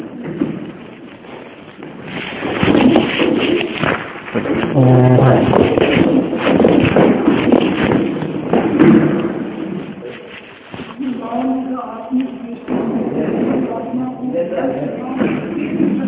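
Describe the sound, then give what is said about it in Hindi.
Chairs scrape and shift while feet shuffle across the floor, a busy, continuous rustle of movement, with murmuring voices mixed in underneath, as people move their chairs forward during a murli class. “अरे भाई आगे आओ, कुर्सी आगे कर लो, इधर आ जाओ।”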